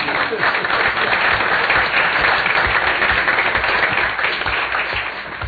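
A steady round of applause from a group at a City and Borough of Juneau, Alaska, Assembly meeting, congratulating engineers after the proclamation of National Engineers Week, dense overlapping claps holding at an even loud level for several seconds before easing slightly at the end.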